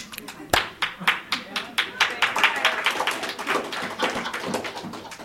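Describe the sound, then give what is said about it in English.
Thin, scattered clapping from a small crowd, a few dozen irregular claps over several seconds, moderately loud and close, with no cheering or voices. “Oh, that was a pitiful applause.”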